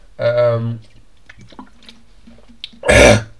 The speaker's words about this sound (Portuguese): Estou aqui com uma tossita, miúdos. Uma tosse marota.